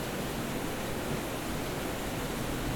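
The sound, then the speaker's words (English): Steady, dense hiss of rain falling, an even wash of sound with no breaks or distinct drops standing out, and no voices. “remember what the sound of the rain was like?”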